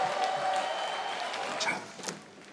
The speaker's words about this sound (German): Entsprechend mischte sich wohl eine Menge Erleichterung in den Jubel bei der Wahlparty der Grünen heute Abend.